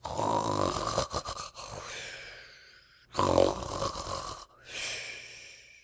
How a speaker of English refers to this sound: He stood a minute watching Tommy Brock and listened attentively to the snores. They were very loud indeed, but seemed quite natural.